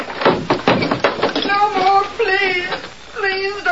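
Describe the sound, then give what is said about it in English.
A door on a porch is forced open: a few rough scraping thuds, then a long, wavering creak as it gives way and swings. “Get this door out of our way.”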